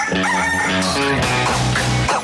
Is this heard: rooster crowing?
yes